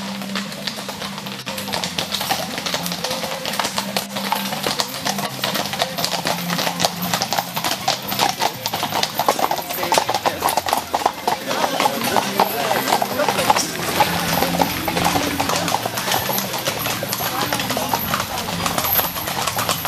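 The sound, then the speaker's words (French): Horse hooves clip-clop steadily and loudly on a hard road, a busy rhythmic clatter of horse-drawn transport lasting throughout, with indistinct voices mixed in the background. “L'apparition du chemin de fer sonne le glas du transport à chevaux.”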